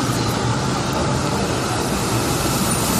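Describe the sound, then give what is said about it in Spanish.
A train passes through an underground station without stopping, a loud, continuous roar of wheels and echoing rail noise with no break across the whole stretch and no voices. “Por cierto, por aquí siguen pasando trenes.”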